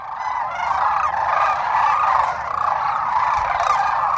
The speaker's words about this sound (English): There was these like spectacular cranes. They were so loud and beautiful.